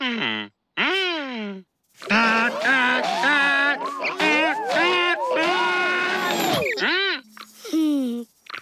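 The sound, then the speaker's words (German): A voice imitates elephant trumpeting: loud, blaring calls that swoop up and down in pitch, a few short bursts first, then a long stretch of overlapping wavering toots, ending with another short blast. “Dein Tröten hat auch nicht geholfen.”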